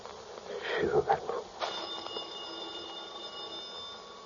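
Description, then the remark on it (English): A telephone starts ringing partway through, a steady electronic trill that holds on to the end, after a brief murmur of voices at the start. “Shoot. The phone.”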